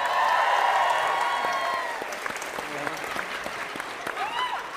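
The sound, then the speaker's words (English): A live audience applauds panelists Glenn Weldon, Stephen Thompson, Audie Cornish and Fred Armisen as they are introduced, with dense, continuous clapping, whoops and cheers at the start. The applause fades down after a couple of seconds, leaving scattered claps and murmuring voices. “I clapped for them, but only out of social obligation.”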